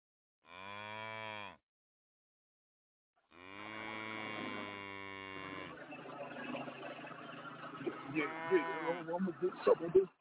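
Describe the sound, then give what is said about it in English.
Two loud cow moos: a short low bellow, a pause, then a longer drawn-out one, followed by a man talking over a steady low hum. “Get the hell away from my damn cow.”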